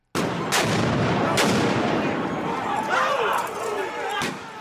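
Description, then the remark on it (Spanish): Sharp explosive bangs of fireworks set off by protesters go off at irregular intervals over a constant roar of crowd noise and shouting outdoors, during a violent Workers' Day protest in Seattle on a Sunday night, as rocks and Molotov cocktails are thrown at police. “Las protestas por el Día de los Trabajadores en Seattle se tornaron violentas el domingo por la noche cuando los manifestantes encendieron fuegos artificiales y arrojaron piedras y cohetes Molotov a la policía.”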